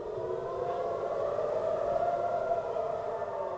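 Civil defense air raid sirens in Tel Aviv, Israel, wail steadily, urging residents to take shelter from incoming rockets fired from the Gaza Strip; the tone holds a long, even pitch with slight waver, filling the air continuously without any voices.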